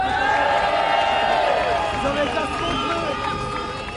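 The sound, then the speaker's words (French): A large crowd at a trade-union gathering cheers and applauds loudly and steadily for a band, many voices shouting together over a dense wash of clapping that fades only slightly toward the end. “Et puis bien sûr, merci à …, je vous demande de les applaudir très fort.”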